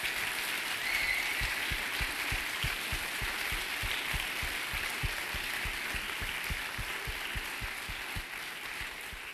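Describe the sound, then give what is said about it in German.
An audience applauds the event's organizing team steadily for several seconds, a dense wash of many hands clapping, tapering slightly toward the end with no voices over it. “Ich glaube, das ist ein extra Applaus nochmal wert für die Orga.”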